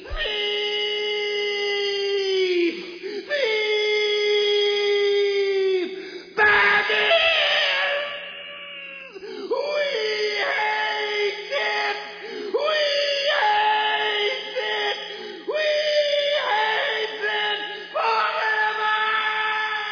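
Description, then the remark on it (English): A creature shrieks, curses and yowls in rage, a run of loud, drawn-out strained cries, each a few seconds long and harsh, with no clear words and barely a pause between them. “Then they'll have heard his shrieking and cursing.”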